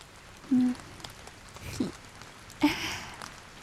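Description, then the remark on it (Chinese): Soft, steady patter of rain, a quiet, even hiss with a few louder drips or splashes scattered through it, heard at a low level with no voices. “把音频切换成斑点型的雨声。”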